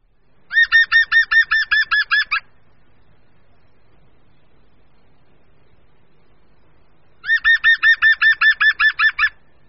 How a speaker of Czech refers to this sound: žluna zelená.